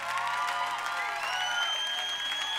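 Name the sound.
audience clapping and shouting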